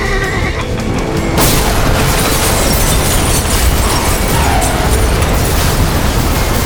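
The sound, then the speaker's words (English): A sudden loud crash erupts after a brief lead-in, then a sustained roar of grinding, rumbling noise and hissing stays heavy for several seconds as a steam train, braking hard on a curve at a ruptured track, derails and plows up 30 feet of soil in Arkansas. “He plowed up 30 feet of Arkansas soil before it finally stopped with the engineers and firemen's bodies hanging unconscious in the broken, twisted engine compartment.”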